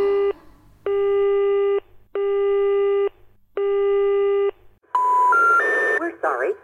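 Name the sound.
telephone busy signal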